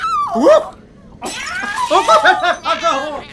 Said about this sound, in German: Nein, was macht denn diese wahnsinnige Katze? Die frisst ja meinen Vortrag!